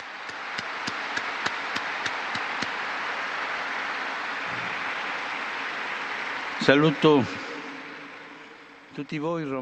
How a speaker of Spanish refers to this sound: Un aplauso a la nueva Beata.